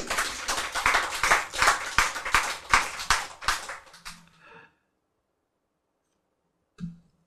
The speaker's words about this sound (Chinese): 后来还不错，他确认说有观世音菩萨。哦，很高兴，拍手。